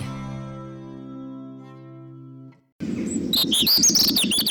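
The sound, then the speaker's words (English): A steady humming tone fades out, then after a brief pause a European robin, a familiar garden bird, sings a loud run of quick, high, warbling notes over a low background rumble. “Scientists studied the robin, a familiar garden bird that can sometimes migrate, flying alone, at night, and often over great distances.”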